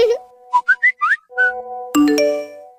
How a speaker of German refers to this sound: Juhu, spitz mal die Ohren. Du hast eine SMS bekommen.